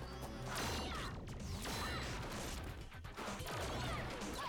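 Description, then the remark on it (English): A flurry of punch impacts, each paired with a sweeping, laser-like zap effect, repeating several times over a loud, busy fight soundtrack with no one talking. “Again, punches don't make laser sounds.”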